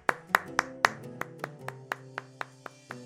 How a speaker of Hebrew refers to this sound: שוב מוחאים לו כפיים.